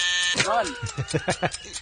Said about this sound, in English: I got to let the timer run out before I...